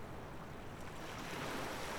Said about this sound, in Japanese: え？なんて？ごめん、波の音でよく聞こえなかった。もう一回。